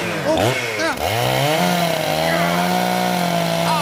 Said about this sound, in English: Right, don't worry. I'll dispatch him with this chainsaw.